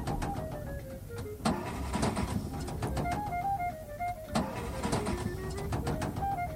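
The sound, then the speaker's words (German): A Studebaker car engine sputters and whines with shifting tones, and two sharp bursts come about three seconds apart, like a motor stalling and failing to catch again. Steady, with no voices. “Nanu, was ist denn auf einmal mit dem Wagen los?”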